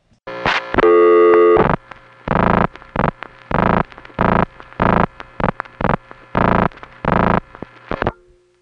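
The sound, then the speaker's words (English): A harsh, distorted telephone busy signal on a long-distance call dialed through the Calgary step tandem pulses on and off in a steady rapid rhythm for several seconds, following a longer buzzing tone at the start, with no voices present. “And again, when you hear the final tadutta, or tadudutta, of Calgary, the connection will already have been made through the step tandem because of the way you dial through it, and the number will be ringing, or busy, or going to intercept.”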